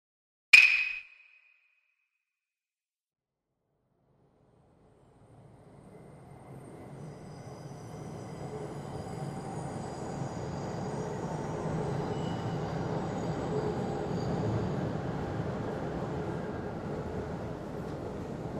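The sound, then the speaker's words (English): A short bright chime rings out, then after a pause a low rumble swells steadily as a Keisei Skyliner train on the Keisei Line, bound for Narita, runs along the track, with rolling wheel noise and faint high-pitched squeals building. “これは京成線ですか？ はい、京成スカイライナーです。”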